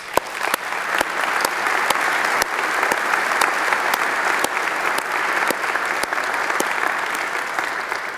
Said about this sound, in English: So can we just take a moment and applaud this and savor this?